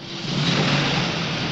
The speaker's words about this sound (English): He shuffles into the driver's seat and pulls away.